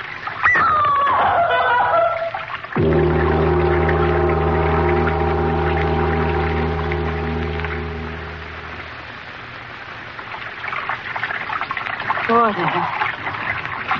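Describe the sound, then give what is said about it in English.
Water rushes steadily and loudly for the whole stretch. A deep droning hum swells over it through the middle, and brief muffled vocal sounds surface at the start and near the end. “Sound of water so loud.”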